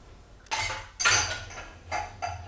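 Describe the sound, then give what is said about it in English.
Dishes clink and clatter as a dishwasher is loaded, four bright, ringing knocks of crockery at irregular intervals over a low steady hum, with no voices. “Are you doing tea after you've loaded the dishwasher?”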